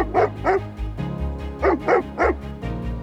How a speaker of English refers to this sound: Then, our dog started barking.